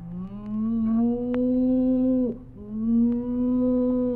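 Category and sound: animal, cow mooing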